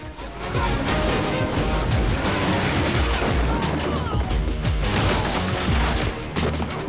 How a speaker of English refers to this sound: The roof caves in with a gunman still on it, and they land hard on the ground.